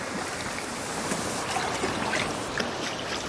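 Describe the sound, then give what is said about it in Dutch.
Steady wash of waves lapping onto the shore in the rain, a continuous foamy hiss with gentle surges and no voices. “De golven proberen hem weer te pakken, dat kleine blauwe rugzakje.”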